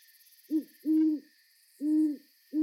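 bird, owl hooting at night

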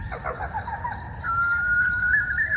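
bird, bird call

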